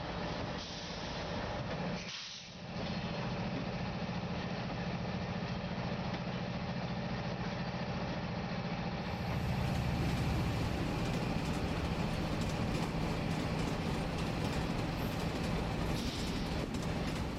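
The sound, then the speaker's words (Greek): A train engine idles with a steady diesel rumble and hum, then grows louder and fuller about halfway through as the train pulls away from Larissa, Greece, bound for Athens. Nobody speaks. “Το τρένο θα φύγει από τη Λάρισα πια και χωρίς άλλο σταθμό θα πρέπει να φτάσει στην Αθήνα.”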